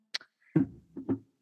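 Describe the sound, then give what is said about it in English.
A short breathy hiss, then a drawn-out yawn from a person, voiced and stretched across several moaning swells that fade out. No one talks. “Can you cut your yawn short?”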